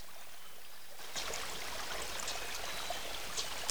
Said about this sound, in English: Every movement and effort, he leans forward and dunks his head into the lake.